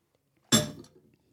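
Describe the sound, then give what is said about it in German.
A single sharp clink of a ceramic coffee cup as someone takes a sip of coffee, bright and ringing, fading quickly into a soft clatter and faint shuffling. “Jetzt lasse ich dir mehr einen Schluck Kaffee ja, trinken.”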